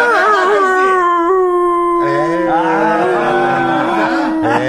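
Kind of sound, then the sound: animal, dog howling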